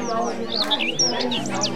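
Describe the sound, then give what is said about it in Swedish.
Birds chirp and tweet in quick, repeated rising and falling calls, clear, layered over a steady humming tonal background of music and voices. “Fåglar, musik och röster.”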